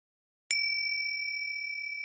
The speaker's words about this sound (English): And once again, where was your attention when the gong rang? Were you thinking? Or just simply sitting there, doing nothing?